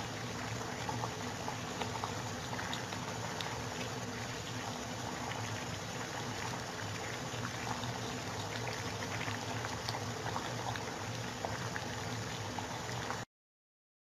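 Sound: water boiling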